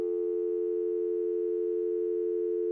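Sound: telephone line tone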